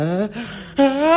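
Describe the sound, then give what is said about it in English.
A single sneeze: a rising, voiced build-up, a brief pause, then a sudden sharp release trailing into a sustained voiced tone. No speech around it. “Bless you.”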